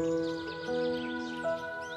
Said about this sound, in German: Und du hörst das Zwitschern von Vögeln, die immer mal wieder über dich hinweg und an dir vorbeifliegen.